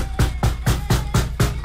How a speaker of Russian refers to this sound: Вот, слышите, как стучат?